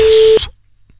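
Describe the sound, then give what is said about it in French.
A landline telephone tone, heard while calling a landline number, hums steadily for about a third of a second, cut off by a sharp click, followed by near silence. Clear, with no voices. “Essaye d'appeler le fixe derrière tout de suite pour voir s'il décroche.”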